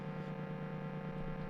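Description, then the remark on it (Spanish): A steady, buzzing electronic tone from an expensive synth hums at an even level for the whole moment, its harsh, layered drone sounding much like radio or signal interference, with no voices. “O sea, esto parece una interferencia, pero costó un dineral.”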